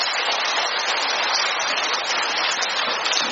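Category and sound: crowd, applause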